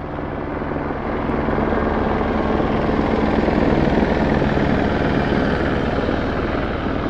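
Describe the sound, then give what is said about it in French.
A gendarmerie helicopter passes overhead, flying over the site, its rotor thudding in a steady rapid beat over a loud, broad engine roar that holds strong throughout, with no voices. “Dans l'air, il y a aussi des hélicoptères de la gendarmerie qui viennent de temps en temps survoler le site.”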